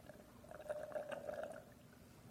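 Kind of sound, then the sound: human body sound, person drinking water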